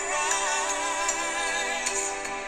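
An Android mobile phone ringtone for an incoming call from a private number plays a melodic, song-like tune, steady and fairly loud throughout with a few soft clicks, and no one speaks.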